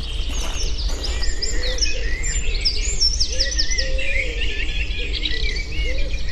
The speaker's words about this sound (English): The rich voices of blackbirds, robins, and wood pigeons proclaiming territory and advertising for a mate. These songs have become so familiar to us as we stroll along, dreaming of long summer days ahead.